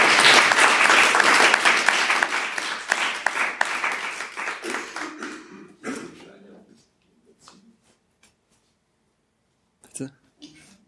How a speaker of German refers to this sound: Ja, großen Applaus nochmal für die Aufmerksamkeit.